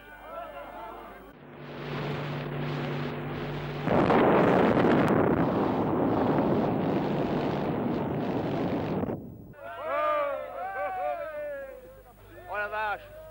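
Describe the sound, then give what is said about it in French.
A massive atomic bomb test explosion on 13 February 1960, four times more powerful than Hiroshima, heard by journalists 20 km from ground zero: a rumble swells into a long, loud, roaring wall of noise that surges stronger midway and lasts several seconds, then cuts off as a voice begins talking. “le 13 février 1960 à Reagan à 7h du matin, devant des journalistes installés à 20 km du point zéro, où doit avoir lieu à 7h très précisément une explosion 4 fois plus puissante que celle d'Hiroshima.”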